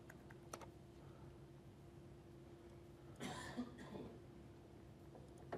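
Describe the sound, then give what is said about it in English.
Quiet typing on a computer keyboard during a live software demo: a few scattered key clicks, then a brief flurry of quicker keystrokes midway, set against a faint steady hum with no talking. “Yeah, keyboard is working, so we should be good.”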